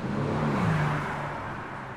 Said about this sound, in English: What's that bus? St. Albans. One of those outside London buses.